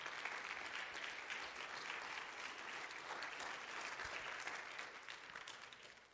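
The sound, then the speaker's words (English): A steady round of audience applause for soldiers, dense overlapping claps forming a loud, even wash of sound that holds for several seconds before beginning to thin out at the end. “I think our soldiers do not deserve another round of applause.”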